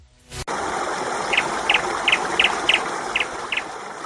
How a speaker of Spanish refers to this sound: tenemos un pajarico que está así más o menos contento porque ha podido beber agua.